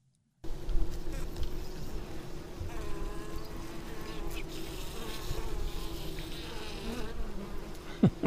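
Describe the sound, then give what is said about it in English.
A steady drone of many bees buzzing together, a dense continuous hum with individual wingbeats rising and passing through it, with no voices. “Now, ladies and gentlemen, news of bees.”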